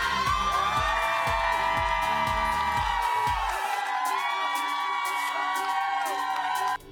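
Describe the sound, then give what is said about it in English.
A large crowd in Cleveland, Ohio, cheers and whoops loudly and continuously during the live morning show Good Morning America, with rhythmic low thumps beneath the first half, before the roar cuts off abruptly at the very end. “And good morning to that great crowd in my hometown of Cleveland.”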